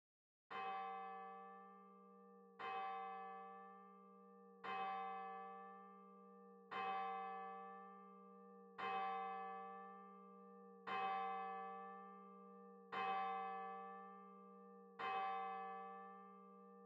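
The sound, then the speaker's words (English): A single bell tolls eight times at a slow, steady pace, about two seconds apart, each strike ringing out and decaying over a sustained low hum. No voices are present. “Be aware of your need and return to this whenever you hear the bell, becoming more aware again of your desire.”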